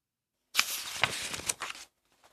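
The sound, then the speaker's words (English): Scissors snipping through coloured paper to cut out small circles, three crisp cuts over a steady papery rustle lasting about a second, with no voices and quiet before and after. “cut out small circles of coloured paper.”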